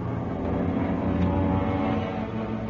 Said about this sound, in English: We're getting planes tomorrow. Those are our planes. They must be ours.